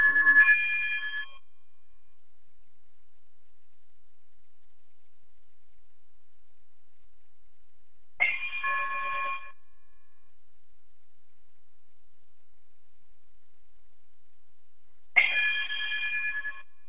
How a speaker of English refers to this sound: if you would you chime us out, brother?